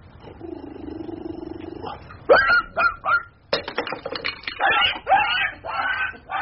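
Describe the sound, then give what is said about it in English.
A dog lets out several sharp, high yelps in quick succession, followed by a burst of clattering, scrambling commotion as it dashes away, all fairly loud. “My word, that dog can run.”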